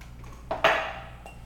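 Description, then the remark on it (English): Dishes clink in a dishwasher: a light tap, then a sharper, bright ringing clank that fades slowly over a low steady hum, with no voices. “Because I guarantee you, you will never, ever, ever, ever put that into the dishwasher ever again.”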